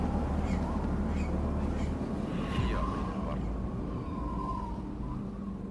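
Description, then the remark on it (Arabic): A wild dove, a bird that lives in the United Arab Emirates, calls in short, rough bursts over a steady hiss and low rumble of background noise, with the calls holding a fairly even level throughout. “حمامة البر طير من الطيور اللي تعيش في دولة الإمارات العربية المتحدة وهي عدة أنواع.”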